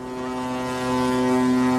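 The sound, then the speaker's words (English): A ship's deep horn sounds in one long, steady blast, loud, as a boat leaves the harbor to cruise along a famous Norwegian shipping route; the tone holds without a break and no one speaks. “Watching that boat leave the harbor”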